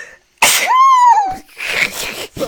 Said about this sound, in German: Und da hatte ich, warte, ich muss niesen. Gesundheit.